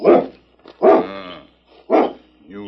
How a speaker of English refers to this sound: That dog is perfectly tame.